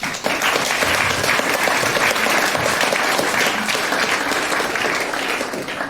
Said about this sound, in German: Und deswegen einen großen Applaus für die Spiele von Kunst- und Kulturspielesammlung.